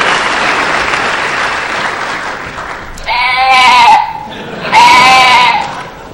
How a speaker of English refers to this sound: Special thanks to our new Sheep of the Year, not crew member, Squeak. Everyone, give Squeak a round of applause.